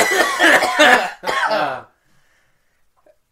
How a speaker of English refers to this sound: I'm going to use your cough as the marker. Because I can see it. We could cough in unison. One, three, two.